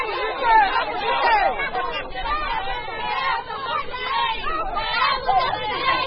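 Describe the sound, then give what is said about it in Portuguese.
A crowd of young newly graduated nurses shouting and clamoring all at once at the gates during a protest over registration fees, with security guards watching: a dense, continuous wall of overlapping raised voices that swells and dips without pause. “Uma gritaria à beira dos portões, com seguranças atentos ao desenrolar dos acontecimentos, 72 horas após a primeira manifestação, igualmente acompanhada pela Voz da América.”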